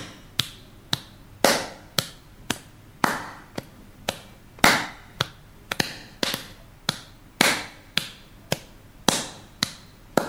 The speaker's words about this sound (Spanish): Ahí estamos escuchando unos aplausos que aplauden haciendo como 1, 2, 3, 1, 2, 3. Ahí estamos escuchando un ritmo de unos aplausos.